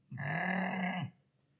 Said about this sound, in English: The type of animal that makes that noise is a sheep.